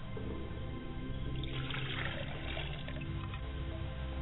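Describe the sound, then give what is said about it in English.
Water splashes and trickles steadily as it is poured into a glass, with a hissy, bright burst in the middle; no talking, a moderately quiet pour. “Ladies and gentlemen, I like to pour a glass of water for my father's spirit, and I say Ashe.”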